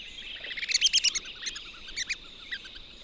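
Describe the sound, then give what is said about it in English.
Red-cockaded woodpecker, a threatened or endangered species, calls in pine woods: a cluster of quick, high, squeaky chirps followed by a few scattered shorter notes, over a faint steady outdoor hiss. “of freshwater streams, swampy areas, ponds, and lakes, which combine with the pine woods to create varied habitats for birds, frogs, and other wildlife, including several threatened or endangered species, such as the red-cockaded woodpecker.”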